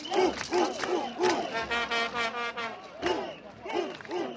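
A large stadium crowd chants a song in unison, loud and rhythmic, with repeated bursts of massed voices rising and falling in a steady pattern.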